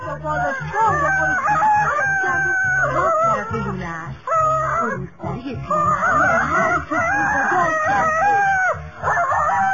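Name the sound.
rooster crowing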